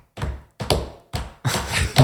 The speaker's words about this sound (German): Man hört nur die Leute trampeln, aber man hört keine Musik und jeder, deswegen habe ich es auch so unrhythmisch gemacht, jeder trampelt in seinem eigenen Takt, weil die einen hören so schnelle Musik